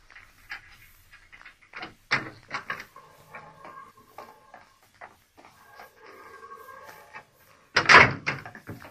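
A heavy prison corridor door is unlatched and swung open: clunks and rattles, a long creaking groan, then a loud thud near the end. No one speaks.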